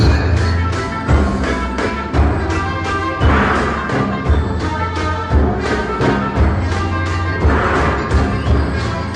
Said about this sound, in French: l'un des plus grands succès mondiaux de percussion, Stomp, que vous connaissez peut-être, Jean-François, qui utilise donc des objets du quotidien, casseroles, balais